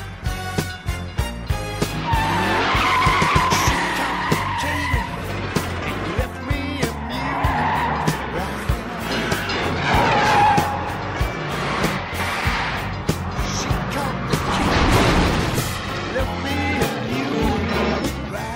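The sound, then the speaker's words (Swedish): A police car's powerful 440 cubic inch engine roars and revs hard while its cop tires squeal and skid repeatedly, the loud screeching rising and falling over a steady rumbling motor throughout. “Car's got a lot of pickup. It's got a cop motor, a 440 cubic inch plant.”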